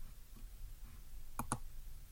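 Two quick, crisp computer mouse clicks in close succession on an on-screen button that shows and hides a sidebar, sharp, over a faint low background hum with no one speaking.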